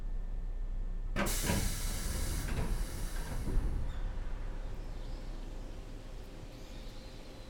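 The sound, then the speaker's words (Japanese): A train door opens with a sudden loud pneumatic hiss after a moment of quiet, the burst of air slowly fading into a steady background rumble, at the first stop, the Station of Spring Breeze and Sunlight Through the Leaves. “では扉を開けますね。”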